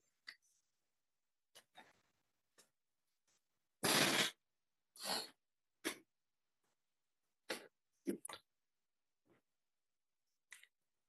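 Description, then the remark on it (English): Someone blows their nose into a tissue in one long, loud, rushing blast, surrounded by several shorter sniffs and snuffling bursts, with no talking. “You've got our tissues. Please excuse me, I've got to blow my nose.”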